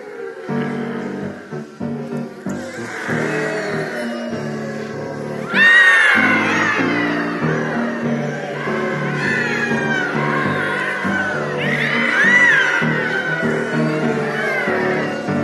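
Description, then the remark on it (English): A group of people vocally imitate ocean sounds and a creaking boat, with overlapping whooshing breaths and drawn-out, wavering squeaks and groans rising and falling together for several seconds. “And let's say this part right over here, you're going to be the boat creaking.”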